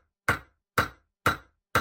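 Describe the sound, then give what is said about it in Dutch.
Four sharp hammer blows strike in a steady, even rhythm about half a second apart, each a crisp impact with a short ringing decay and no voices. “Timmeren.”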